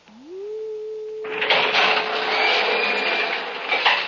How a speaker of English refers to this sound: I have the special light key that will cut the alarm from the outside. I am opening the door to come in.